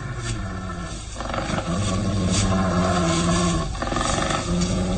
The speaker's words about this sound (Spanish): Los gruñidos se escuchan ahora más claramente.